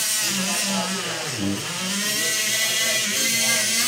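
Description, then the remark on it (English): A surgical saw whines steadily as surgeons cut open a patient's breastbone during chest surgery, its motor pitch sagging briefly midway under load before climbing back, with a harsh grinding hiss throughout. “The sound of them sawing open the breastbone was, I guess we can go with alarming.”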